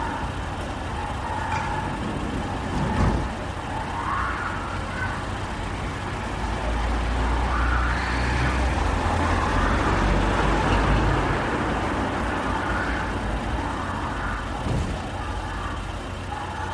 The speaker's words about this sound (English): But people, neighbors that before had a noise from traffic, now is calling us because they perceive more noise than before. But in our data, we have less noise than before because you have put out the traffic noise, you know.